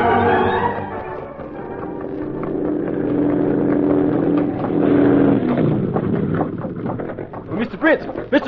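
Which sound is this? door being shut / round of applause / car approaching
car approaching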